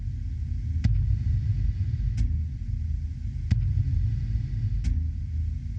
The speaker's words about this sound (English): At this part of the track, you're hearing a heartbeat.